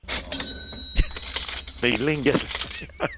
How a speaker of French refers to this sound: Alors, le bruit d'une caisse enregistreuse,